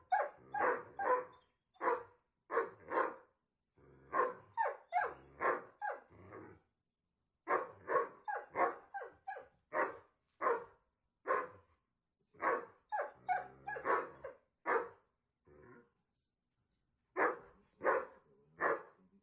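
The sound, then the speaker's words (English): Repeated loud dog barks in quick bursts, several barks per volley with short pauses between, with no talking. “Next, dogs love barking.”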